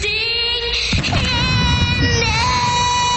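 A crowd cheers and whoops steadily under a female singer holding a long, high sustained note during the US national anthem, the noisy roar of voices filling the background for the whole few seconds.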